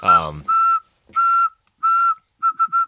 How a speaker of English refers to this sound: You know, and if, it gets, you know, if you're whistling, three short whistles, three long whistles, three short whistles.